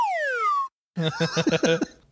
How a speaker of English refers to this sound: Slide whistle down sound here.